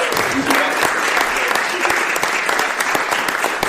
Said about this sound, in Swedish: Stora applåd och tack så hemskt mycket för att ni kom. Tack för att ni kom.